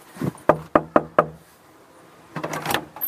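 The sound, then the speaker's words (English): Four sharp knocks on the front door of a woman's house in quick, even succession, fairly loud, followed by a pause and then some faint shuffling or movement at the door. “I'm just going to go up to her door. I hope she's in.”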